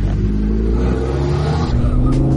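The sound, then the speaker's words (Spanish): A Lamborghini sports car engine is started with a button and rumbles loudly, its deep throaty tone swelling and revving steadily for a couple of seconds with no one speaking. “Llegó el momento de prender esta bestia. Para prenderlo está este botón acá, que uno tiene que levantar la tapa y apretarlo.”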